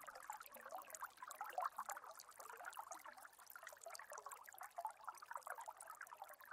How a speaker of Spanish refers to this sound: Comienzas a escuchar a lo lejos un sonido de agua que cae. Te vas acercando más y más. Y de lo alto de una montaña puedes apreciar una cascada.